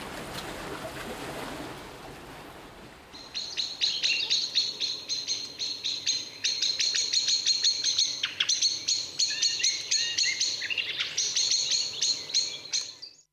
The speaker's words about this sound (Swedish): Sist här orosläte och smackande av koltrast. Och spetsar man öronen ordentligt kan man också i alla tre exemplen höra rödhake i bakgrunden.